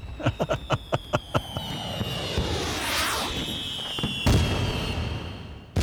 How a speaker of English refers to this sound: Fireworks have been a part of the 4th of July since the very beginning, and it's safe to say that in general, the rule has been the bigger the better.